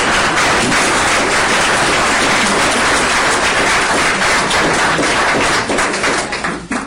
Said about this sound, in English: So let's bring them both up with a warm round of applause.